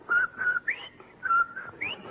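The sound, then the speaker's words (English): A person whistles a short, bouncy jingle melody, held notes broken by quick rising slides, imitating Von Zell's whistling and singing on the porch, with no talking over it. “Well, confidentially, after Von Zell left here, I saw him out on the porch and he was whistling and singing. Like this.”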